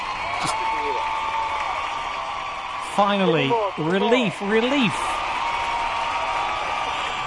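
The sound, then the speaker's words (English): A crowd at Siren Radio cheers and applauds in a steady wash of clapping, with a burst of rising whoops and shouts in the middle; a voice speaks briefly at the start. “As you can hear, the spirit of Siren Radio, they're going crazy”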